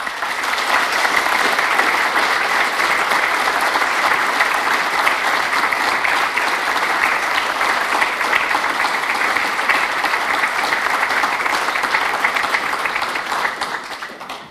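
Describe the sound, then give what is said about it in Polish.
Sustained audience applause, a dense wash of many hands clapping at steady loudness for about fourteen seconds before tapering off at the very end. “Więc dla nich wielkie oklaski.”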